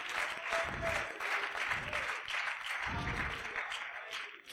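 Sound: audience clapping hands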